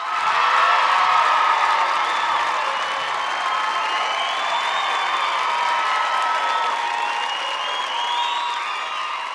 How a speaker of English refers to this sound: Then he jumps over the water jump, onto the grass on the other side. He doesn't hit the water. All the spectators applaud.